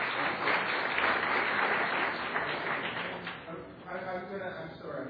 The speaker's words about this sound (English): Thank you very much. I'm glad to take a round of applause.